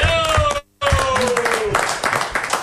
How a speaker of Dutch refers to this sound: Applaus voor Van der Ham, jongens.